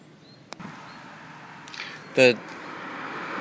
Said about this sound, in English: The sound of those cars rushing by on the other side of the road is the traffic on the other side, which is flowing extremely freely.